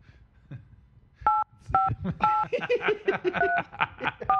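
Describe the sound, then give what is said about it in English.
A run of telephone keypad dialing tones as a phone number is entered to call someone, several short, clear two-note beeps in quick succession, loud, with people laughing and chattering underneath as the beeps continue. “I didn't realize it was going to make a big beep sound when I put his number in”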